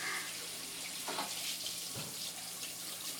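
Steady rushing water runs continuously, like a shower spraying close by, with a broad hiss filling the whole clip and a few brief splashy changes as the stream shifts. No one speaks.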